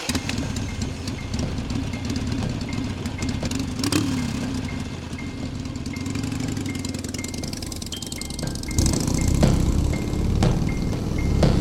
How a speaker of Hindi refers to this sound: Raghu bike start करता है और होटल की ओर निकल जाता है